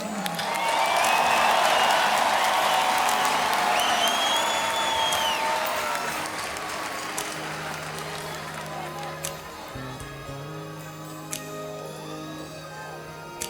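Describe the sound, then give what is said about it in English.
A crowd bursts into loud, dense applause with whistles and cheers for the musical director as he is introduced, which gradually thins out over several seconds as low, sustained instrumental notes begin underneath. “And please, give a warm round of applause for our musical director,”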